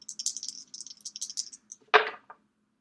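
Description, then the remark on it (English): Dice rattle in a cupped hand for over a second with quick clicking bursts, then clatter onto a hard surface with one sharp knock and a small final tick. No voices. “See if Riley's dice are as magical as last time.”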